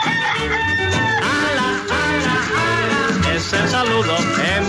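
The rooster of radio station Radioactiva crows loudly several times in a row over a dense, continuous music bed, the crows rising and falling in pitch. No one speaks.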